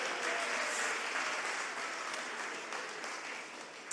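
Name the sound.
audience clapping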